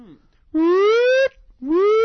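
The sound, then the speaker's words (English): A voice imitates a siren with two rising wails: a long, loud upward sweep that cuts off sharply, a brief pause, then a second sweep climbing the same way. “Nice siren, thank you.”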